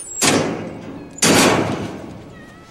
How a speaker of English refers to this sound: place Zowie in a kennel cage and lock the door